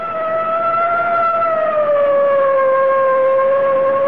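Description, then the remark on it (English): A loud, steady siren sounded from a car closing in on a truck wails continuously, its pitch sliding slowly downward over a few seconds, with a faint engine rumble underneath and no voices. “I guess it's time to sound the siren.”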